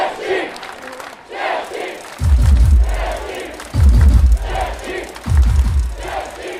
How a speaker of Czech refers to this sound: právě míří sem na Staroměstské náměstí, jsou v Pařížské ulici v autobuse a co nevidět, přijedou potěšit tisícovky fanoušků, kteří se sešli a vlastně už nějakou hodinku a půl zpívají a hlavně skandují na podporu domácích mistrů světa v ledním hokeji.